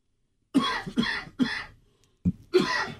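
A man coughs in a quick run of three harsh bursts, pauses briefly, then lets out a couple more chesty coughs, close and fairly loud with no talking.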